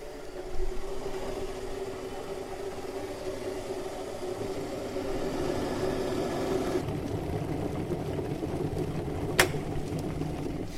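electric kettle boiling water

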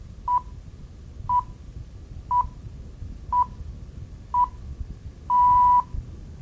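radio time signal pips

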